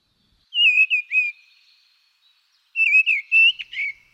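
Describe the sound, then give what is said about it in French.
Mistle thrush (Turdus viscivorus) song: two short, clear phrases of loud fluting whistles separated by a pause of about a second and a half, heard alone with no talking or background noise. “Et la grive draine, Turdus viscivorus.”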